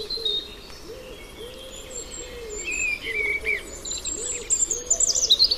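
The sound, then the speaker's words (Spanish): A common cuckoo calls over and over in low, hollow two-note phrases at a steady pace, while thinner chirps and twitters from other birds fill the background outdoors, as a phone bird-identification app records and listens. “Cuco.”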